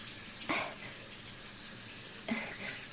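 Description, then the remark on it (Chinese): Water runs steadily from a tap whose valve will not close, a continuous hissing gush that stays broad and even throughout, with two brief sharper splashes breaking the flow. No voices are heard. “儿子，你快来看看， 是不是因为这个水龙头的阀门关不上了呀？”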